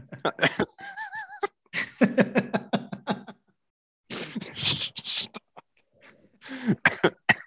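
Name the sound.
coughing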